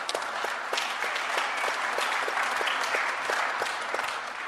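Steady applause from an audience, a dense wash of many hands clapping at an even loudness for several seconds, with no one speaking over it.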